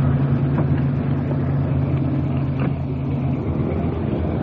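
A car engine rumbles steadily with a low, droning hum as the car is pulled slowly up against the curb, out of the middle of the street, with no voices.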